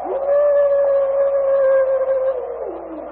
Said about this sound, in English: That is just another of those gray devils. They ever bunch together in wolf pack,